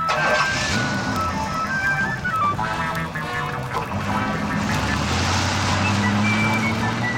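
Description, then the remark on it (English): The Batmobile's engine rumbles steadily and loudly throughout, swelling into a deeper revving roar toward the end as it drives off with Batman and Robin, with some high tonal whines layered over the noise. “Into the Batmobile.”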